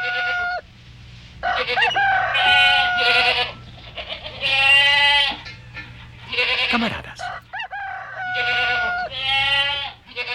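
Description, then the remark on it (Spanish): A noisy chorus of farm animals grumbling and calling over one another, with clucking and crowing fowl and bleating goats, loud in overlapping bursts, with no talking. “A poco de ocurrir esto, algunos animales comenzaron a murmurar, pero en vano.”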